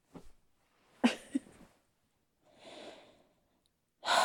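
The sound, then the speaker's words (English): Slow, drowsy breathing of someone fallen asleep, with soft nasal inhales and a faint snore-like rasp, then a long breathy exhale; quiet pauses between breaths, no talking. “All I want all day is just to come home to you, to see you and hold you, and instead I fall asleep on you. I do not snore. I do not. I do not. Okay, maybe a bit.”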